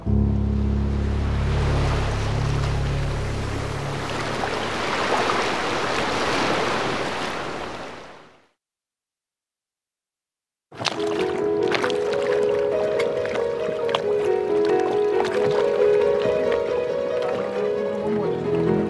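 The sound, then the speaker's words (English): Steady water sloshing and lapping for about eight seconds against the hull of a moored boat as someone sets foot on the boat, then a brief silence before music with sustained tones begins. “Setting foot on his uncle's boat for the first time since the murder.”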